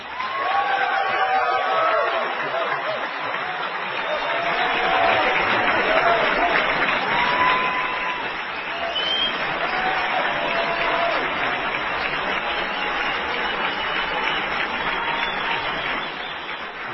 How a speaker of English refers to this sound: Ladies and gentlemen, please, a warm round of applause for Lou Rockwell.